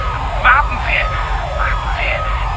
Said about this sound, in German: Irgendjemand muss den Feueralarm ausgelöst haben. Ich sehe aber kein Feuer. Stoppen Sie das alles und machen Sie endlich die Sirenen aus.